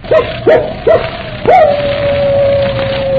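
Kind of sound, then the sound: animal, dog barking and yipping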